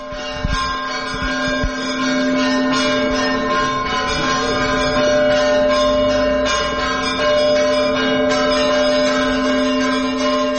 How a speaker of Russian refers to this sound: Бориса Годунова будет ставить с колоколами Святогорского монастыря.